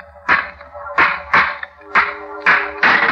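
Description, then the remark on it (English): Six hard blows of a stone against an old, rusty metal lock on a tomb door, each striking with a sharp crack and a brief metallic ring, landing in a quick, uneven rhythm with no voices. “Smashed the lock.”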